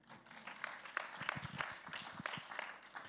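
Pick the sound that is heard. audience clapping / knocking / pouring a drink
audience clapping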